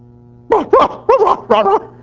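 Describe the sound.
A man's voice imitates a dog barking, four loud, harmonic woofs in a quick, slightly uneven rhythm, over a faint steady hum.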